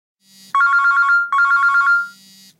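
A telephone rings loudly: two trilling electronic bursts in quick succession over a faint low hum, with no voices.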